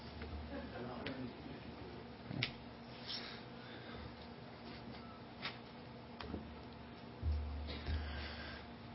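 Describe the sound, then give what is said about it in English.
A clock ticks faintly, with soft, sparse clicks over a low background hum and a few louder thumps near the end. “There's a clock out there, too.”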